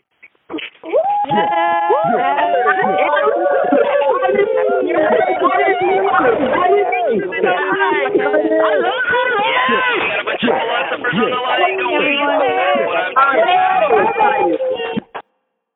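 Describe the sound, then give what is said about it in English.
Many callers cheer and shout over one another through thin, tinny phone lines as the lines are unmuted, expressing gratitude and excitement, a dense, steady wall of overlapping excited voices lasting about fourteen seconds before cutting off abruptly. “If you are, I want to hear you express that feeling, that gratitude, that excitement into the phone as I unmute the lines right now.”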